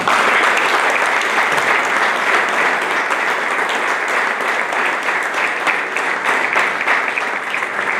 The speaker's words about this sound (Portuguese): eu peço uma grande salva de palmas a todos aqueles que tiveram a trabalhar arduamente para o desenvolvimento desta coletividade de referência na região Autónoma da Madeira.